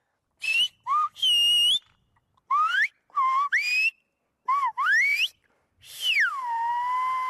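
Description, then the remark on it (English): A human whistler produces a rapid string of sharp, gliding whistled phrases in the Silbo whistled language, rising and falling in pitch with brief pauses, a message warning that the police are coming to make an arrest, loud and clear with no talking. “You could warn a fire, pirates, or police entering the harbor, which would go like this.”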